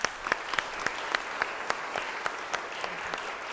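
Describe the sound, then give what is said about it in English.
A small audience applauds a woman being thanked, a dense patter of clapping with a few sharper, regularly spaced claps standing out, moderately loud, with no talking. “I'll give her a clap.”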